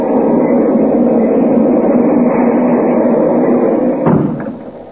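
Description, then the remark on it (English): A steady, loud rumble and rattle fills the inside of a moving train, broken near the end by a sharp clunk like a door before the noise eases off. No one speaks. “I want to see more of the train anyhow.”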